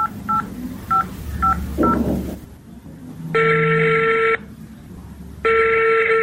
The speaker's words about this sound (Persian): موبایلم بده که با مامای زنگ بزنم.